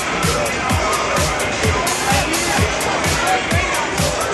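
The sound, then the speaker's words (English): A steady indoor crowd murmur of many overlapping voices fills a large gym after a basketball game that ended 81-60. Regular low thumps like footsteps on bleachers sound as the crowd heads out, continuous and moderately loud. “Silver Streaks win it 81-60 over Champaign Centennial. Crowd heading out.”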